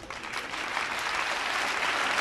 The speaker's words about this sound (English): Imagine you have a room full of people and you ask them to start clapping, okay?